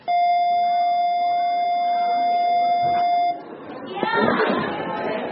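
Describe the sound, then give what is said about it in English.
A school dismissal bell in the Alief Independent School District on Houston's southeast side sounds as one loud, steady electronic tone held for about three seconds, then cuts off into lively chatter of students speaking 88 languages pouring into the hallways. “At the dismissal bell, a United Nations of students, 88 different languages in all, pours into the hallways.”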